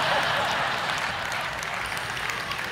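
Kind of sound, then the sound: crowd, audience clapping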